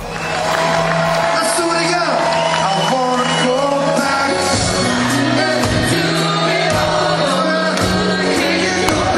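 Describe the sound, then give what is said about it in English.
A large concert crowd sings along loudly over live music, many voices blending into a dense roar, with whoops and cheers breaking through continuously. “Listen to how the crowd sounded when they sang this.”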